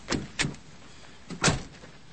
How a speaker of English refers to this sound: Maggie shuts the truck door and stands by the bonnet. Ike shuts the driver's door and moves along the length of the car.